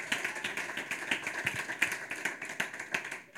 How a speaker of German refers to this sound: Und ich finde es mal ein mega Applaus wert für alle, die unten mitgearbeitet haben. Hey, Hammer, oder?